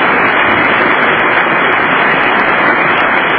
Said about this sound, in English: Apparently, you just can't clap enough for the President of the United States.